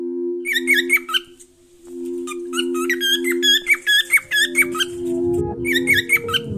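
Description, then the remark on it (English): A bird named Rigo squawks in quick, shrill bursts of squeaky calls, pausing briefly and then starting again, over a steady low droning hum. “Rigo is a bird.”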